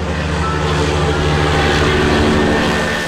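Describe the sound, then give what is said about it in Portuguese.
A propeller airplane in flight drones steadily and loudly throughout, a continuous low, throbbing hum with a rough, buzzing texture and no voices over it. “Tive, pois, de escolher uma outra profissão e aprendi a pilotar aviões.”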